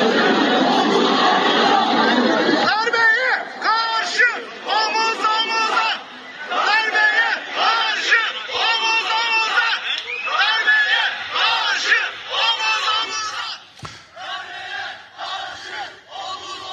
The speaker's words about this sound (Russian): Сторонники Эрдогана вышли на улицы и скандируют плечом к плечу против переворота. И их много.